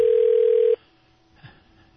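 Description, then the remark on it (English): A single steady telephone ringback tone from a call transferred to an assemblymember's office message phone sounds clearly for under a second, then cuts off, leaving a quiet line with a faint click. “It's a ringing.”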